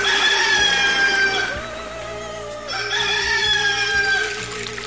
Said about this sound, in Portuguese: A bordo, monotonia absoluta, só quebrada pelos cantos dos galos.